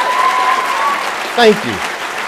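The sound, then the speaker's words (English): An audience claps steadily for the MCs at a morning event, a dense, even wash of applause lasting the whole clip, with a thin sustained tone early on and a brief vocal whoop rising over the clapping toward the end. “Before I say anything, can we give our MCs a raucous round of applause, please?”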